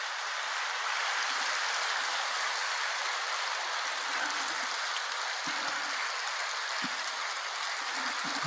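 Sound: audience applause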